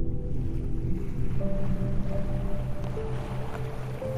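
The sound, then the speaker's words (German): Steady wash of ocean water at the surface with a low, rumbling churn and faint tonal hums, waves lapping by a boat as a diver surfaces after a safety stop; continuous, no voices. “Nach einem Sicherheitsstopp streckst du schließlich den Kopf aus dem Wasser.”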